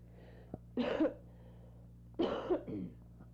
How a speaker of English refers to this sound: that cough I have is the leftovers from, I'm sure it was a case of pneumonia, but I ignored it. I think I had the same cough that I had back a few months.